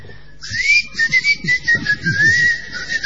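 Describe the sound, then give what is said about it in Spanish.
A person whistles through their teeth, a thin, airy, wavering tone with a hissy edge that holds for almost three seconds with small pitch wobbles. It is fairly loud, with no talking. “Sin embargo, he perfeccionado un silbido de dientes.”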